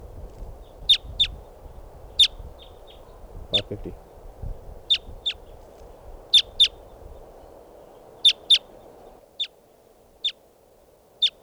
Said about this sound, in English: Our type twos must be about 10 or 12 birds. Now they're perched up on the top of a tall Douglas fir. Right here by the camp. And the birds are just fluttering around the floor.